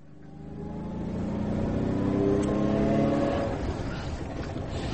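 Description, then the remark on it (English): A car engine rumbles and revs up, its droning pitch rising and holding for a couple of seconds before settling back, with no voices. “Right, I asked my driver to come and pick us up. The car should be waiting down below.”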